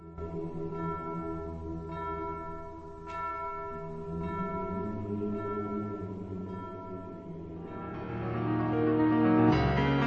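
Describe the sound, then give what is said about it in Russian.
Slow, measured strokes of the large Selikhovo church bell toll from afar, ringing for a church service, each deep, humming tone ringing on and overlapping the next, swelling a little louder toward the end. No voices. “Откуда-то издалека, с неба, доносились мерные удары большого селиховского колокола.”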